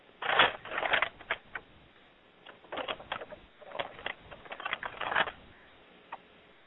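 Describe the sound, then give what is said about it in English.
A person falling over with a crash, then a run of clattering knocks and thuds over several seconds, moderately loud, fading to a final light bump. No one speaks. “Next thing I hear is crashing.”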